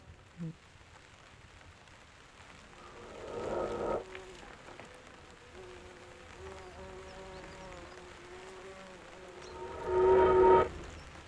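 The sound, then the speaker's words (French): Insects buzz and drone outdoors in a steady chorus of pulsing, tonal calls, swelling louder twice, briefly near the start and again toward the end, with no voices. “Non, le son, c'est surtout les insectes qui sont autour.”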